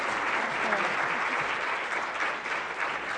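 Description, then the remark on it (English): Steady, dense applause from an audience as people clap and stand, some still sitting: many hands clapping at once in a continuous, fairly loud wash of sound with no voices breaking through. “Clap and stand, absolutely.”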